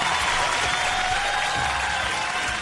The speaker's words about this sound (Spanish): Aplauso, por favor.